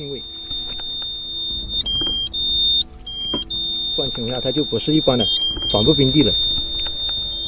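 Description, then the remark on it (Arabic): A metal detector used in mine clearance gives a steady, thin high-pitched electronic whistle that jumps between pitches in short steps, continuous, with a voice talking over it in the second half; the rising, higher tone warns of an anti-personnel mine in the ground. “أقوم الآن بإجراءات عادية لإزالة الألغام وأستمع بدقة للأصوات الناتجة عن جهاز الكشف عن المعادن.”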